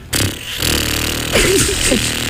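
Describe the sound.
A voice imitates a helicopter as a sound effect for a traffic report. It makes a steady, loud, low sputtering rumble lasting about two seconds, rising into wavering, swooping vocal tones near the end.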